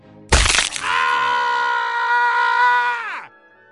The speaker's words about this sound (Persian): پایین میری مواظب باش، روی یکی از پله ها قالی پوسیده است. و درست در همین لحظه صدای سقوط هولناکی میشنوی.